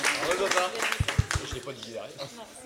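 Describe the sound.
An audience claps in a steady, moderate patter of many hands, with voices talking over it and a few low thumps partway through.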